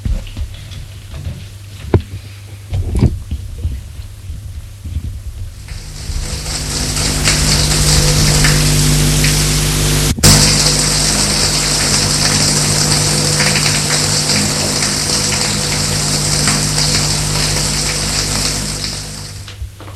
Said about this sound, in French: Va à la salle de bain, prendre sa douche.